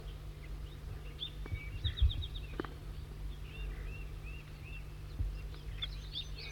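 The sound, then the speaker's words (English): Juvenile wild birds chitter in quick, high, scattered bursts of short chirps over a steady low hum, with a couple of soft thumps mixed in. They are perched up in a service barrier right above a net. “Pointing right at the wild birds, chittering.”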